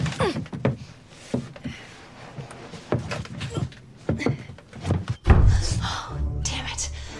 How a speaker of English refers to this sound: Allie kicks her legs, the chair rocks.